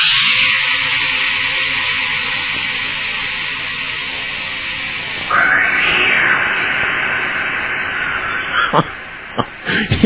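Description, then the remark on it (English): A cat falling at terminal velocity into Mel's hole: a long, loud, strained animal screech runs steadily, surges rougher about halfway through, then ends in a few sharp, abrupt thuds and crackles. “Should a cat descend at terminal velocity into Mel's hole, here would be the actual results in audio.”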